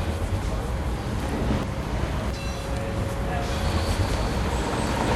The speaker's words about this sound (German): Der lange Riegel vor uns ist eingerüstet und wird saniert. Man hört darum während allen Aufnahmen von dieser Episode, hier wird geschafft, mit grossen Geräten und mit viel zusätzlichem Verkehr.